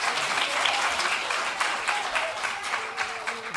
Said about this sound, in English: Thank goodness. You took all my time with applause.